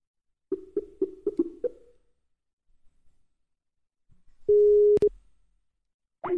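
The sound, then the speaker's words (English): A phone line gives a quick run of five short electronic beeps, then after a pause a loud, steady tone cut off by a click, like a busy signal, as a man is called again on his phone. “I called Jimmy again.”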